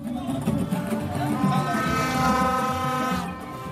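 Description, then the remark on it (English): Loud, continuous blaring of many horns and vuvuzelas at an election campaign event in the Medina neighbourhood of Dakar, Senegal, around a truck covered in posters of candidate Bassirou Diomaye Faye. Their sustained buzzing tones overlap into a dense, droning wall of sound over crowd noise. “Lots of horns and vuvuzelas blaring out.”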